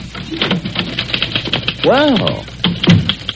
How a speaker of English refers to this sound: Yes, you might tell me what you're doing on my genuine Chippendale chair at my authentic Louis XIV desk. Typing on your hand-tooled platinum-plated typewriter